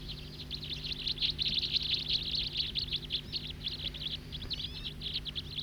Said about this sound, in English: One of those birds is singing, I believe. Calling now from some of the others.